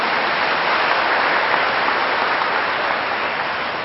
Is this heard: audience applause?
yes